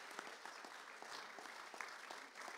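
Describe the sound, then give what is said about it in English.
An audience claps for a family after a child dedication prayer, a dense, steady patter of many hands for a few seconds, with no one speaking over it. “Right, give them a clap.”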